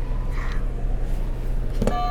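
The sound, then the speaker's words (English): A steady low electrical hum runs throughout, then near the end someone clicks one of several buzzers, which sounds once with a bright, tonal electronic chime much like a doorbell. “Ooh, sounds like a doorbell.”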